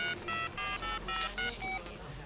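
A mobile phone keypad dials a number: about seven quick electronic tones in a steady rhythm, each a short bright beep of a different pitch, clear.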